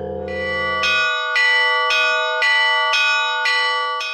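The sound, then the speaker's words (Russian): Church bells peal in a steady rhythm, bright metallic strikes roughly every half second over a sustained, shimmering ring, fairly loud, with a low hum fading out early. “Сейчас искусство литья церковных колоколов возрождается.”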